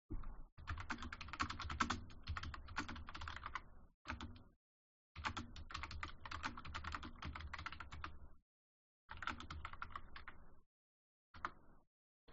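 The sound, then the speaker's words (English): Bursts of rapid one-handed typing on a computer keyboard in several runs separated by short pauses, the keystrokes crisp with an uneven, hunt-and-peck rhythm and no voices. “One-handed typing, by the way.”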